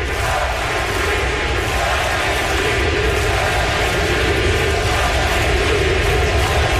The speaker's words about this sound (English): The crowd is chanting MVP. He steps up to the plate, and then this happens. 40,000 chanting MVP.